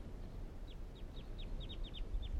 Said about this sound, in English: Recording the birds calling now again.